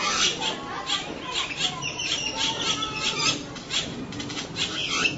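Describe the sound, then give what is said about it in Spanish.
A dense flock of wild birds chatters and squawks nonstop in a tree, their overlapping calls forming a busy wash of sound with occasional fluttering wingbeats. “¿Son de zoológico o son pájaros silvestres? Son silvestres.”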